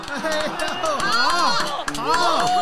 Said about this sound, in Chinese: 台下的观众先是愣了一下，接着忍不住拍手叫好。